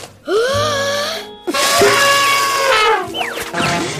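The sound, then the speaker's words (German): A party horn is blown hard at a birthday party, blaring in two long, wavering honks with bending pitch, then a shorter, choppier burst at the end. The buzzy tone is loud and stands alone, with no talking. “Er pustet feste in seine Tröte.”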